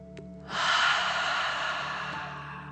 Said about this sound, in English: And let's take three more deep dragon breaths. Remember to breathe in through your nose, filling up your chest and belly, and then out, pretending you are breathing fire. Deep breath in and out.